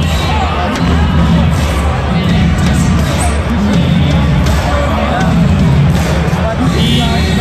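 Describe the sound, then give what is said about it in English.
A loud, continuous roar of a large crowd cheering at a hockey game, dense and steady for the whole stretch with swelling murmurs and shouts blending together. “That's why everybody was cheering.”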